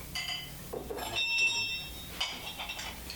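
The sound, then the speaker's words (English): A small old collectible bell is rung, its bright metallic tones shimmering and lingering, then struck again with a few light clinks. The ringing is moderately quiet against a soft background. “Well, at one time I had a real good collection of bells. You see, these have different tongues.”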